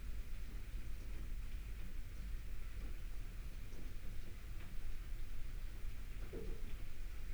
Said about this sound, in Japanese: 雨止まないね。学校から帰ってくるとき大変だった。うん、いつもの服が雨に濡れて張り付いちゃうから。